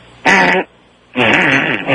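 Two loud, buzzy fart sound effects in quick succession, the first short and the second longer and wavering, both prominent with no talking.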